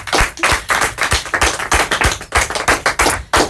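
Applause from a small group: a steady run of crisp, loud hand claps, roughly three per second, filling the whole moment with no voices over it.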